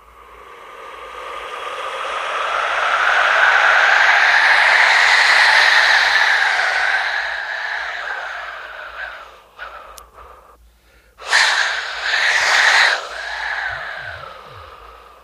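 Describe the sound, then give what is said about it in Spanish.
An Aztec whistle named for the wind god, blown alone to simulate wind, giving a loud, breathy, rushing howl like wind that swells and holds for several seconds, sputters and fades, then bursts back in a shorter gust. “por ejemplo, este instrumento también, que es un silbato que hace nombre al dios Ekalt, uh-huh.”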